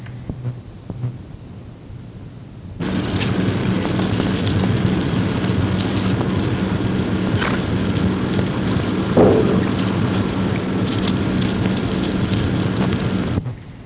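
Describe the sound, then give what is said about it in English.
A steady, hissing roar of sped-up seismic ground noise, recorded at a station across the area from a hot aquifer and 3 miles from the highest ground noise anomaly. About two-thirds of the way through, one brief, slightly louder thump from a small volcanic explosion breaks it. No one speaks. “You probably heard that little volcanic explosion on that record.”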